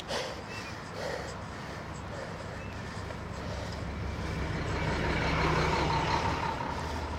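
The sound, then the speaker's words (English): A large truck rumbles past on the road, its broad engine and tire roar building steadily and peaking near the end before starting to ease off. “Big truck island side of the road.”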